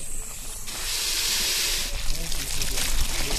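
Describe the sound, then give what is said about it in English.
A garden hose suddenly bursts into a steady hiss of spraying water that continues without letup, with faint voices murmuring in the background. “And then the hose. We can use the hose.”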